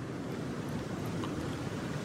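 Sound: ocean waves breaking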